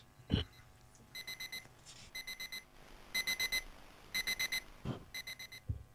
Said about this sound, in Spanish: Suena el despertador, se arma la revolución, como un toque de silbato en una competición.